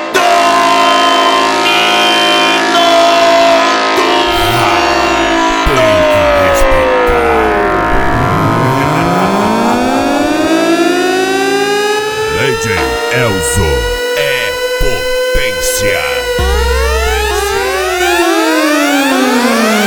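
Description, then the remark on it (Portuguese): A loud, blaring street-race horn sounds continuously, its layered tones swooping down and back up in pitch in repeated sweeps, dense with no pauses throughout. “a corneta do racha.”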